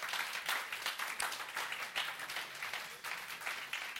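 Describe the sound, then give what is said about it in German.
A church audience applauds steadily for the person who designs its flyers, dense overlapping claps sustained at an even level for several seconds without a break, clear. “Geben wir mal einen dicken Applaus für all die mega coolen Flyer, die er immer wieder gestaltet für uns als Gemeinde.”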